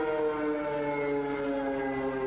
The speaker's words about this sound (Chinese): 傍晚五点多，警报声大响，路口骑士赶紧往头顶瞧，难道中国的飞弹真的打过来了吗？